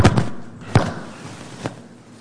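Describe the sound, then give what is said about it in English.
A door at the back of a courtroom swings shut with a series of dull thumps: two quick knocks at the start, a heavier thud a moment later, and a softer final knock as it settles, with no one speaking. “Let's wait for the door to close in the back.”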